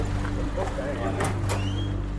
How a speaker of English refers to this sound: We arrive in Norway House, an indigenous community nestled on the north shore of Lake Winnipeg, and enter a local restaurant packed with a lunchtime crowd.